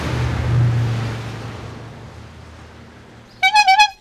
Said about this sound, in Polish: Ma tu taką fajną trąbkę. Jest czerwony. Z niego to została tylko rama i kierownica, a resztę już właśnie starałem się udoskonalać, żeby był z tych czasów, bo on przypuszczam, że ta ramka to jest, ma ze 40 parę lat.